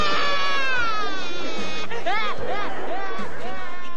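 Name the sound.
girl crying loudly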